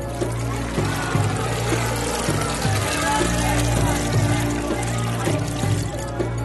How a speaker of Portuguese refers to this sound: Assim todos eles se reuniram em Mispa. Tiraram água e a derramaram em oferta ao Senhor.